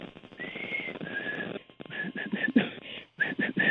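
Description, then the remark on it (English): A person whistles an imitation of a white-throated sparrow's song: two long, clear sustained notes followed by a run of short repeated notes, soft and a little wavering, over faint background noise. “I had recently read that catbirds are mimics, so I whistled my rendition, rather feebly, I must admit, of a white-throated sparrow song.”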